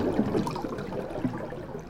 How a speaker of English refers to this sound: Reefs are very loud environments. You've got popping shrimps. You've got all the people down there. The sound carries pretty well through the water. You're hearing them nailing away. You're hearing all of their bubbles float up to the top.